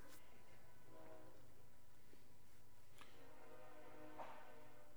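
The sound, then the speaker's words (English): A train rumbles past with a steady low roar while its horn sounds in sustained, harmonic blasts, loud, with no voices. “and then I want to wait for the train to go by.”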